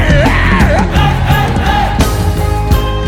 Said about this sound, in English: Somebody say, kilo do. Yell it louder to the devil.